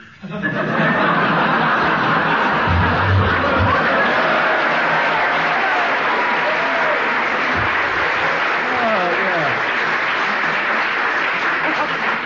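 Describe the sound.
A studio audience bursts into sustained applause mixed with laughter and chuckles at the end of a round of a word game, loud and steady throughout, with a few voices and whoops rising over the clapping.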